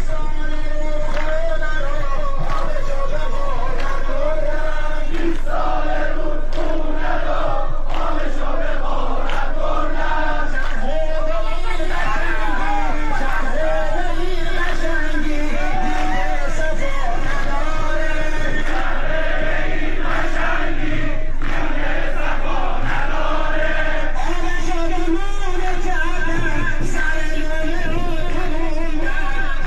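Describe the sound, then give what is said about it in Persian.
A large crowd of farmers in Isfahan province, Iran, protesting on the Zayandeh Rud riverbed over the lack of a water allocation for autumn wheat planting, shouts continuously, many voices overlapping in a loud, dense roar with rising and falling bursts of chanting and yelling throughout. “حرکت اعتراضی کشاورزان که مربوط به عدم تخصیص سهم آب برای کشت پاییزی گندم است، از روز دوشنبه 17 آبان با تجمع کشاورزان در مقابل شرکت آب منطقه‌ای و صدا و سیمای مرکز استان اصفهان آغاز شد و از آن روز به بعد بر بستر زاینده رود ادامه پیدا کرده است.”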